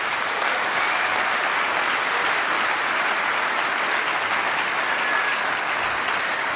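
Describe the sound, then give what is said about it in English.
Sustained audience applause welcoming two journalists and editors of netzpolitik.org before their talk, a dense, steady wash of many hands clapping at an even loudness for several seconds, with no voices standing out. “Please give them a warm round of applause and enjoy the talk.”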